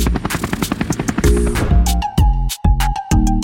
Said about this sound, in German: Jetzt vielleicht noch ein Hubschrauber.